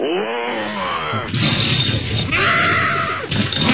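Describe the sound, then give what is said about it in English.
A man imitates the monster roar he makes during a bowel movement: a long, rough growl, harsh and rasping, rising and falling in strained bursts over nearly four seconds with no words. “Do you roar like a monster when you're having a nice BM? Yes. Can we hear that?”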